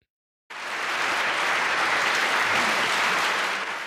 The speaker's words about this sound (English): A round of applause, like an audience might give after a performance, rings out around the living room.